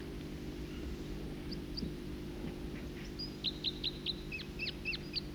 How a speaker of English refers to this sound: Other birds coming in now, song flight of a second bird. Two separate songsters and adjacent perches in different trees.